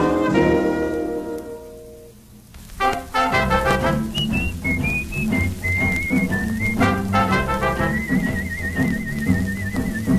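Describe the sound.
Someone whistles a bright, wandering melody over a lively band accompaniment, coming in after a short instrumental opening and carrying on clearly to the end.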